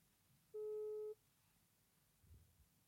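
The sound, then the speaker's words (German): A single steady electronic ringback tone as a phone call is placed, a flat mid-pitched beep held for about half a second, then quiet line hiss. No one speaks. “Geil, ich höre es klingeln.”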